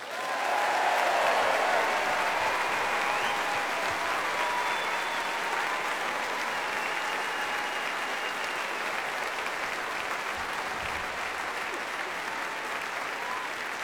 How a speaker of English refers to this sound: And a huge round of applause, please, to our very own Aurora Orchestra.